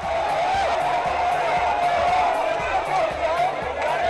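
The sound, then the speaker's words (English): A large crowd of supporters cheering and shouting together at the airport in Pakistan, greeting former Pakistani Prime Minister Nawaz Sharif on his return after 8 years in exile; a dense, steady roar of many voices with no pauses, loud throughout the whole stretch. “Sharif returned to Pakistan Sunday after spending 8 years in exile and was greeted at the airport by cheering supporters.”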